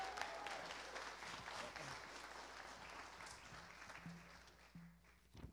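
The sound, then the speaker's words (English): A crowd claps in sustained applause welcoming the first people, a young man and his dad, coming into the water, a dense crackling wash that stays steady and fairly loud before thinning slightly toward the end, with faint voices murmuring underneath. “Give him a round of applause to come in.”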